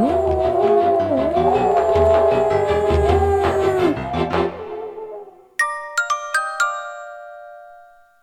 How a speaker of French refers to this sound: Il rêve que Nanouk se bat tout seul dans la nuit contre une meute de loups polaires.